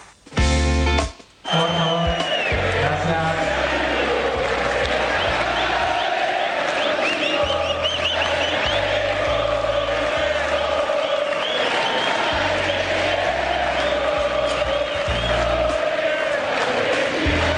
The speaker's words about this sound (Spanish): Qué futbolero ese cántico. Sí, se trasladó al tenis, donde en general, claro, estos cantitos así no se suelen escuchar.